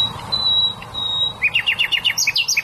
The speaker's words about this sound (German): Wenn Nachtigallmännchen singen, dann wollen sie damit auch die Weibchen beeindrucken.